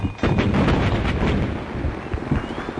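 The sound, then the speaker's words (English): Heavy booming cannon fire from the shore rolls on continuously, deep thudding blasts overlapping with crackling bursts, loud and sustained without any voices. “Oh, I hate being fired up from the shore.”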